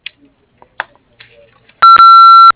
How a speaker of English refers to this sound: Hello, you've reached Skyhaven Farm. We are unable to take the call at this time. The sound of the beep, please leave your name, phone number, and short message, and we'll get back to you as soon as possible.